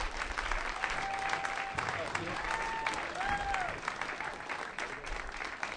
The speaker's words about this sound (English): Right there in the middle. Come on up. Applause.